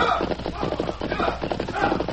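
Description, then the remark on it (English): Hoofbeats of two riders' horses clatter along a trail at night under a bright moon, coming from the direction of a wagon train. They keep a quick, steady clip-clop rhythm, fairly loud and continuous over a dense, busy background. “Me hear hoofbeats on trail.”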